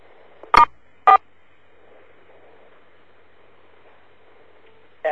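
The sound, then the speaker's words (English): Two short, loud electronic phone keypad beeps in quick succession from pressing star and then 4, over a faint hum, with another brief tone starting right at the end. “Could you star 4, please,”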